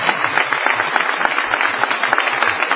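A crowd breaks into steady applause, many hands clapping in a dense, crackling wash that holds at an even level for the whole stretch, with no voices over it.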